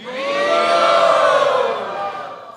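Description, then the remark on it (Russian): A crowd of many voices shouts "Haribol" together in a sustained, loud collective cry, swelling quickly and holding for about two seconds before fading out. “Поднимите руки, кому хорошо было во Вриндаване. И Харибол крикните.”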